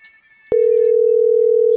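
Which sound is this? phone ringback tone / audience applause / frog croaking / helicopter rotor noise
phone ringback tone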